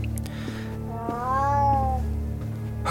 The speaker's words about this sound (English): Oh, it's a cat. It is. A large, black, magisterial cat. It unwinds itself and pads silently off into the gloom of a side passage.